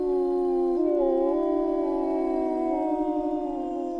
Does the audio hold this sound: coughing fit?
no